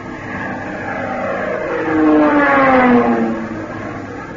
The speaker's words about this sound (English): Plane diving at 12 o'clock.